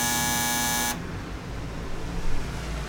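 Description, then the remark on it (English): The door buzzer for bell number 9 at Zander Road Salon is pressed and sounds once with a loud, harsh, steady electric buzz lasting about a second, then cuts off abruptly, leaving a low rumbling background. “Zander Road Salon, bell number 9. I wonder what happens when we press this.”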